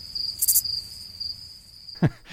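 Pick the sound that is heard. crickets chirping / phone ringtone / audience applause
crickets chirping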